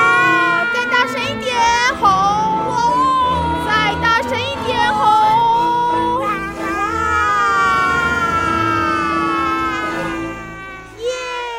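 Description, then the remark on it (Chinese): Children let out loud, sustained shouts in imitation of a lion's roar, their high voices wavering and overlapping for several seconds, with a brief dip before a final push. “学狮子吼， 哇！”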